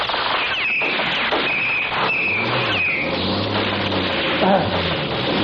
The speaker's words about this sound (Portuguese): O jipe está com o motor ligado. Vamos embora.